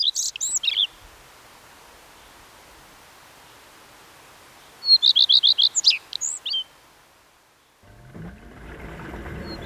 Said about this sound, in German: Das ist der Gartenrotschwanz.